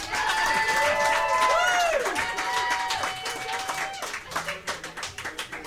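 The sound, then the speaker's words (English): A crowd applauds a band after it played, loudly with whoops and whistles rising over the dense clapping, then the applause thins out into scattered individual claps near the end. “Please, please clap for them.”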